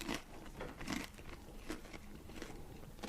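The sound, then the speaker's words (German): Crunchy bites into a crispy pizza burger baked in a large oven, crisp on both sides: a series of dry, crackling crunches at an uneven chewing rhythm, fairly quiet, with no talking. “Ja, aber es knuspert schön, von beiden Seiten.”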